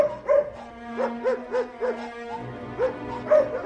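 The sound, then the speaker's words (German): Several dogs behind bars bark in quick, repeated yelps mixed with high whimpering whines as they excitedly greet a visitor, a fairly loud cluster of excited, plaintive calls with a steady hum underneath. “Also bei den Hunden ist es besonders gut zu beobachten.”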